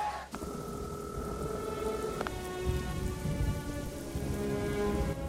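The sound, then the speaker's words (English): Heavy rain pours steadily around a phone box, a dense hiss of drops drumming on surfaces, with a low rumble underneath and a couple of brief sharp clicks near the start. “Heavy rain is pouring down around him.”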